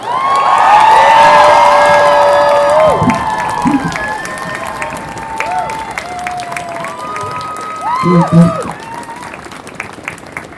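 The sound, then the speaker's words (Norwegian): A crowd in Oslo bursts into loud, dense applause mixed with cheers and whoops for a speaker about to talk, which gradually thins and fades, while a few voices call out over the clapping. “Og nå skal han prate for dere og gi han en gigantisk applaus.”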